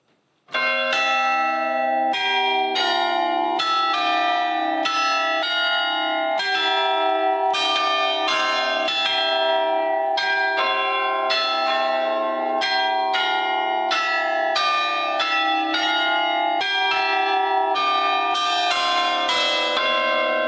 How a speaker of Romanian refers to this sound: Cu ajutorul ghidului nostru ne-am urcat direct în turn să admirăm mecanismul ceasului care, din oră în oră, cântă hora unirii de aude tot orașul.